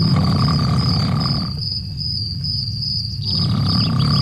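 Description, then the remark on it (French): Loud snoring of a man, a heavy snorer in a residence in Bordeaux: a deep, rough rumbling drone that carries on without a break, easing slightly midway, with a steady high buzzing tone above it and no talking. “Lui, c'est un gros, gros ronfleur. Il fait tellement de bruit qu'il embête non seulement sa chérie, mais aussi tout le voisinage.”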